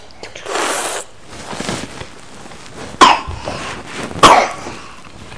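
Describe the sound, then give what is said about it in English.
A few sharp, harsh coughs spaced unevenly over several seconds, with a raspy throat-clearing burst early on and brief quiet gaps between them. “Oh, bad cough.”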